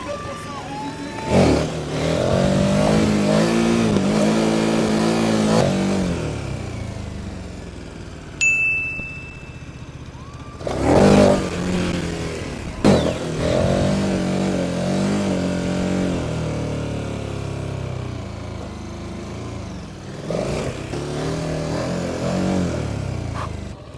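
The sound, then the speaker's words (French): A large adventure motorcycle engine revs and accelerates loudly in two long surges, pitch climbing through the gears, with a brief high electronic beep in the pause between them. “La moto qu'on aurait dû avoir à la Réunion, franchement”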